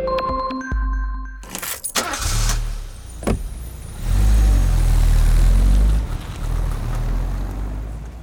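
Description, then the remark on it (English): A car engine rumbles and revs, a deep low growl swelling loudly in the middle before easing off, with brief mechanical clicks and tones at the start and no one talking. “Some car sounds are more obvious, like the horn or the engine.”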